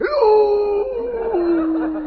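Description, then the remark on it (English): A person imitates a wolf howl: one loud, sustained wavering note that slides gradually downward in pitch for about two seconds, with no talking. “Here's how a real wolf goes.”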